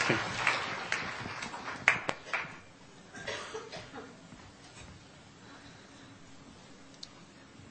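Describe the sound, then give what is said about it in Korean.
A burst of scattered, echoing clapping from an audience, given as encouraging applause for a church deacon coming forward to give a testimony. It is strongest at first and thins out over a few seconds into quiet background noise. “여러분, 격려의 박수 좀 부탁드리겠습니다.”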